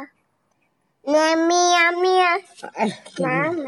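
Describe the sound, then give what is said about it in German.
A young child imitates a cat with a long, high, wavering "meow," followed by a couple of shorter vocal bursts and a second rising-falling meow-like cry. “Und es gibt ganz viele Katzen. Wie macht die Katze?”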